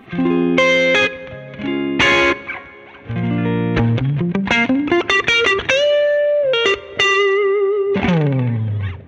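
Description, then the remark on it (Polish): An overdriven electric guitar plays a lively riff of chords and sliding single notes through an amp, with its spring reverb set to only a few percent giving a faint touch of reverb on the tail; fairly loud, no voices. “No dużo za dużo, nie? Raczej kilka procent tej sprężyny.”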